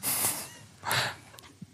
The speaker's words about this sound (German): Ich weiß, du kommst von den 60 Minuten. Du schnaufst schon auch ganz schön.